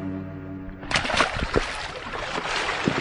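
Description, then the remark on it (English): A low droning hum cuts off, then water sloshes and splashes in uneven bursts as someone in rubber boots carefully climbs out of a boat into shallow water on a lake's north shore. “Getting out of this boat very carefully. I don't want to get too wet.”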